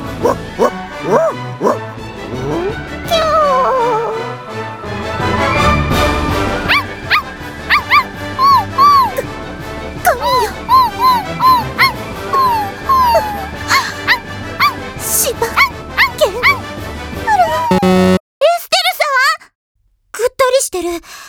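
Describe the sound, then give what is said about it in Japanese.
Several dogs, called the Italians, bark, yip and whimper excitedly inside a shop, a busy overlapping chorus that runs almost continuously, with people's voices mixed in and a brief quiet gap near the end. “犬がお嫌い、いえ好きすぎたということかしら。”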